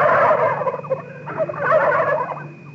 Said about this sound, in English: It wasn't me. It was some turkeys behind that fence.